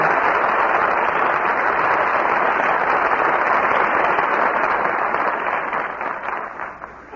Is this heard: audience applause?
yes